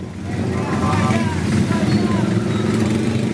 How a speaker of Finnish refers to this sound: Kulman takana odottaa 10 mopotaksia. Ohi kiitää mopokulkue, se suuntaa toisen ihmisen hautajaisiin.